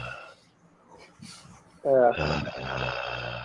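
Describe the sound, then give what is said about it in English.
Near-silence gives way to a sudden loud, rough breathy snort, then a steady hiss of open microphones carrying the noisy breathing of several people that continues to the end. “I can't even hear you guys breathing. Ah, that's better.”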